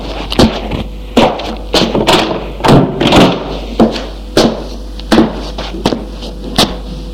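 A door is pushed and shut amid a string of fairly loud thuds and clacks, about a dozen irregular impacts over several seconds, with no voices, as a man lets his brother in and closes the door.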